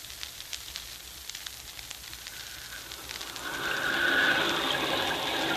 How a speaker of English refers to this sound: Look at that rain, Crawley. It's just what you ordered, sir. And down there in the valley, the lights glow cheerfully through the rain.